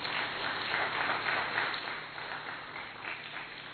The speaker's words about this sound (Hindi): जो आप समय से पूर्व पहुंचे हैं, इसलिए अपने लिए बहुत जोरदार ताली बजाएं।